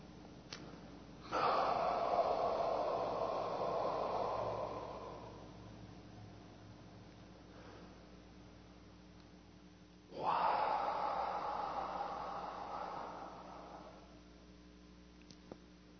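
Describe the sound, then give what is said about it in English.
Two slow, deep breaths during meditation, each a long airy rush lasting several seconds, separated by a quiet pause over a faint steady hum. The breathing is clearly audible, with no talking. “Just breathing.”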